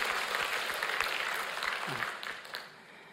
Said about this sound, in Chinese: 我为这些受洗弟兄姐妹鼓掌好吗？欢迎大家，欢迎大家，感谢主。